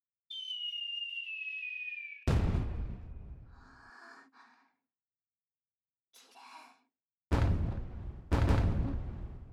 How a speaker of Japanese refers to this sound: こっちじゃなくて、ちゃんと花火を見ないと。ちゃんと見て、頭じゃなくて目に焼き付けてください。